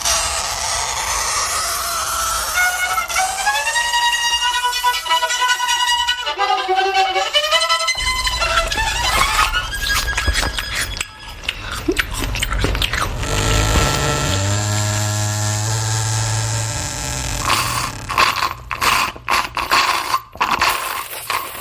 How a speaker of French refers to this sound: Alors, vous aurez reconnu successivement craie sur tableau, violon débutant, hein, première année, on espère pour lui, porte qui grince, mastication, aspiration à la paille dans un verre presque vide.